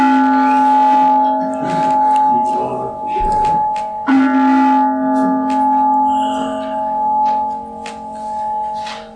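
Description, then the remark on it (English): A church bell at the Center of Spiritual Living in Huntsville, Alabama rings twice during a Sunday celebration to begin a silence, about four seconds apart, each strike sending out a clear, sustained tone that hums and slowly fades. Fairly loud, with faint background noise beneath. “Sound of the bell take you into the silence, if you will.”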